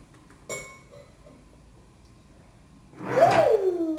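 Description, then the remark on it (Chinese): A toy fire truck is crashed into another toy vehicle: one light plastic clack early on, then a louder clattering crash near the end, with a brief high squeal riding over it. “救火车来撞，来。”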